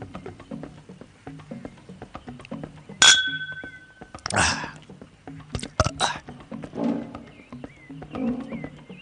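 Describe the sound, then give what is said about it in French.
Glasses of drink clink once as a village chief and a visitor toast, a bright ringing chime that lingers for about a second, followed by a few louder clattering knocks over a low, rumbling background. “Trinque avec moi. Très bien. Trinquons.”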